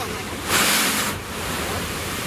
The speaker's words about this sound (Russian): Обратите внимание, друзья, вот такая странная конструкция с тремя дырками, видите? Сейчас как волна жахнет. Вот волна, волна, волна, идем сюда, смотрим, ну, жахаем. Раз, два, три.